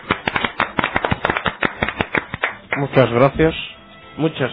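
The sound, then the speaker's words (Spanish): A burst of studio audience applause on the humour programme Game Over, a steady patter of sharp claps lasting a couple of seconds for a guest introduced as the president of Sony, fading as a voice begins talking over the last scattered claps. “para lo cual pido un aplauso grande, presidente Sony del mundo mundial.”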